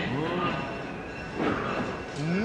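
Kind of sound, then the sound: vehicle, train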